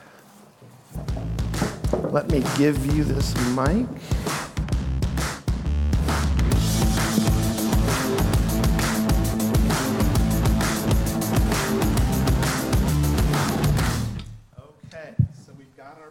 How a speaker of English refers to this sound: While they're coming up, we're going to kind of resettle a few things and get a couple of chairs over here.